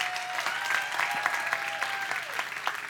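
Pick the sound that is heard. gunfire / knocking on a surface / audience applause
audience applause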